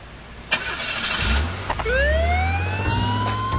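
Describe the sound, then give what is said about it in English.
A police patrol car siren winds up in a single rising wail, loud, over the rumble of an engine that starts just before it with a few mechanical clunks. “Still, a ride in my patrol car usually sobers the drunks up.”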